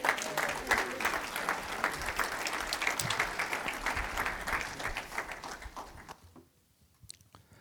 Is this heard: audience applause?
yes